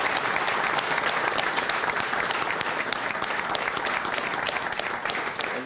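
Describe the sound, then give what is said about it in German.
Sustained applause from an audience, a dense steady patter of many hands clapping at an even, fairly loud level throughout, with no voices standing out. “Ein warmer Applaus an dich.”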